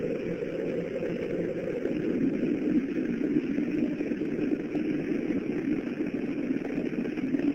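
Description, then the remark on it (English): A steady, powerful roar of Space Shuttle Challenger's three main engines during launch ascent on the 25th Space Shuttle mission, as the engines throttle down to 94%, a dense rumbling wall of noise that holds constant throughout with no voices. “Engine's beginning throttling down now at 94%.”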